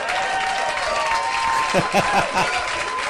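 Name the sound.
applause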